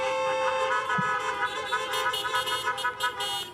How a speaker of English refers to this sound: I like the honking, by the way. I love it.